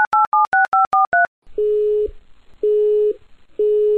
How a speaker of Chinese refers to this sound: 孩子，今天这个电话已经六次占线，七次不在服务区，九次没人接，你还打呀？